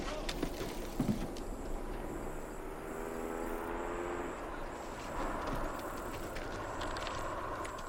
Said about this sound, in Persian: یه ماشین داره میاد سر جوخه.